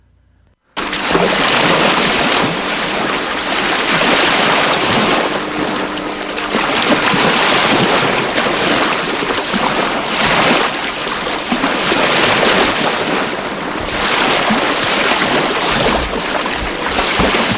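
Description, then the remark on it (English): Atlantic Ocean waves crash against the Nigerian coastline in a loud, continuous roar that swells and recedes in several broad surges, with no voices present. “As waves from the Atlantic Ocean hit the Nigerian coastline, it brings with it spilled crude oil from the sea.”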